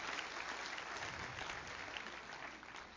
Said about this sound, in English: Give him one more good clap offering.